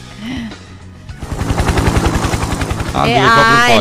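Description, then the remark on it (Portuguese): A helicopter's rotor thuds in a fast, steady chopping rhythm that grows louder after a quiet start, and a voice rises over the noise near the end. “Nosso helicóptero já chegou?”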